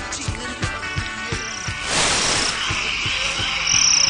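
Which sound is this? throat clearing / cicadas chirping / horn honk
cicadas chirping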